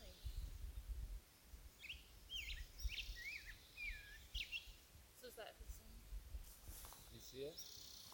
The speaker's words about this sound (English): This is rose-breasted calling.